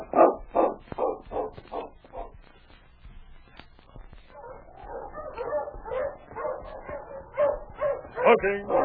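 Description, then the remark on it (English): A sled dog team barks and yips as the team is stopped, first in a quick series of sharp barks, then a busier stretch of overlapping yelps and whines that grows louder toward the end. “Stopped the dog team and walked toward Chuck's cabin.”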